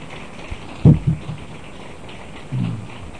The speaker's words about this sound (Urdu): میرا یسوع جی اٹھا ہے, آپ کا یسوع جی اٹھا ہے. آئیں یسوع کے لیے تالیاں بجائیں.